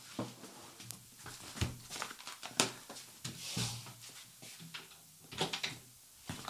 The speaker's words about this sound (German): falls also ein bisschen was im Hintergrund zu hören ist, nicht wundern. Katzenfutter muss verteilt werden.